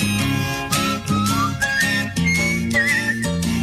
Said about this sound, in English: Nice whistling there.